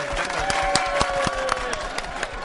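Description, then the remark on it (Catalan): An audience at the Tàrraco Arena Plaça applauds steadily on a Sunday, a dense wash of many hands clapping with a few sharper individual claps standing out, along with faint crowd murmur and a high whistle-like tone. “Sisplau, us dediquem un aplaudiment, no? Un aplaudiment també per vosaltres.”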